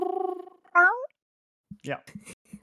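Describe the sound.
A person mimics a cat: a buzzy, wavering hum slides into one loud, rising-and-falling meow. After a short pause come a few brief bursts of speech.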